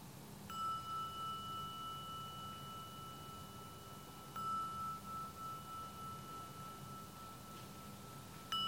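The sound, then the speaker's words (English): A meditation gong is struck about three times, each stroke leaving a steady, clear ringing tone that hums on until the next, quiet and alone with no talking. “And when you next hear the sounding of the gong, it will be the invitation to open your eyes and shift from formal meditation.”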